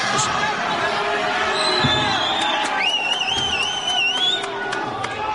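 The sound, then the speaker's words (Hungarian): An audience applauds and cheers steadily for the head of the Mikepércsi Anyák a Környezetért Egyesület, a dense wash of clapping and voices, with shrill rising whistles cutting through toward the end. “Nagy tapsot kapott a Mikepércsi Anyák a Környezetért Egyesület vezetője”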